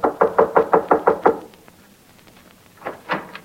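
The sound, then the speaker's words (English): A quick series of about seven sharp, loud knocks on a door in a steady rhythm, then a short pause and a couple of softer knocks. No one speaks. “Well, just as I started upstairs, there was a knock on the door.”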